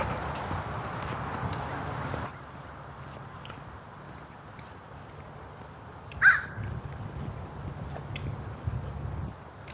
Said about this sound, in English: Crows here. A couple crows